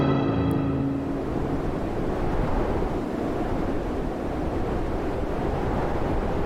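Heavy storm wind roars over crashing sea waves during a storm in the Netherlands, wind force 12 at sea, a dense, continuous rumble with gusts buffeting the microphone; a faint tonal hum fades out in the first second.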